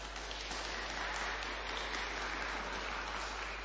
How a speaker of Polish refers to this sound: Jest z nami Złota, parafia świętego Michała Archanioła. Przywitajmy delegację także gorącymi oklaskami.